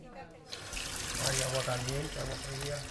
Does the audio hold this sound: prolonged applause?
no